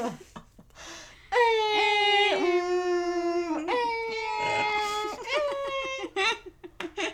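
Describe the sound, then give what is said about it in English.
People's voices mimic a creaky door, with long, strained, whining tones that bend slowly in pitch: two drawn-out creaks followed by a few shorter, choppier ones. “We sound like a creaky door.”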